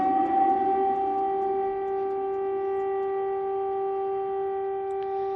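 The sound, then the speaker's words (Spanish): Air raid sirens wail in Kyiv in a long, steady sustained tone with strong harmonic overtones, holding a constant pitch for several seconds with no voices present. “que Rusia sigue operando con drones en Kiev, a pesar de un teórico parón por las hostilidades, y mientras en Kiev volvían a sonar las alarmas antiaéreas.”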